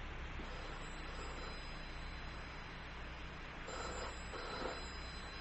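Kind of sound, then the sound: household object, telephone ringing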